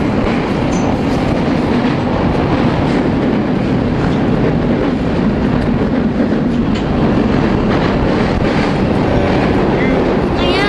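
A train rolls steadily along the rails, a loud, continuous rumble with a faint clickety-clack woven through the roar for the whole stretch.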